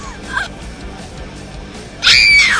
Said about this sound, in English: I gotta put the scream on for that one. I'm sorry.